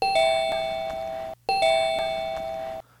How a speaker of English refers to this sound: 这是什么声音呢? 这是门铃的声音。